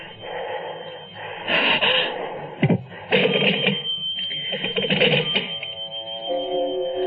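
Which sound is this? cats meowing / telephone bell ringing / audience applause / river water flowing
telephone bell ringing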